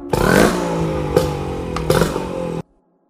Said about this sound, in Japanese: 必死に船までたどり着いた私はすぐさまエンジンをかけた。